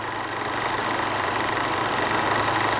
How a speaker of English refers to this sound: Service lift.